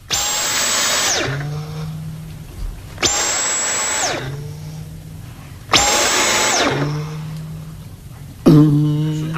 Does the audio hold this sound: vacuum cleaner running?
yes